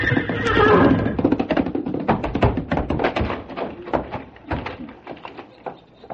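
A big paint horse in a corral lets out a loud whinny in the opening second, followed by a busy run of thumps and scuffling knocks that gradually fade.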